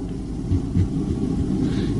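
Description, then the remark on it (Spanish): Deep, continuous rumbling of thunder from a night-time storm rolls on steadily for about two seconds, loud and heavy in the low end, with a couple of slightly stronger swells and no voices. “Aunque sea noche de tormenta, no estarás solo.”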